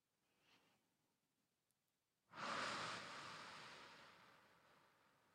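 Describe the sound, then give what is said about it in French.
A faint, quiet breath in through the nose is followed by a long, loud, airy exhale through the mouth that slowly fades over a few seconds, with no talking. “J'inspire tranquillement par le nez et j'expire par la bouche de façon sonore, comme ceci.”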